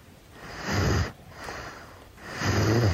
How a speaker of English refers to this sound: She snores like a man.